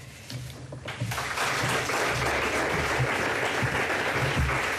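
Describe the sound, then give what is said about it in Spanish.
Sustained audience applause for Sergi Sabrià after he announces he is stepping down from all his responsibilities. A dense wash of many hands clapping swells after the first second and holds steady and loud to the end, with no voices standing out. “Aplaudiments cap a Sergi Sabrià, que acaba de dir que plega de totes les seves responsabilitats”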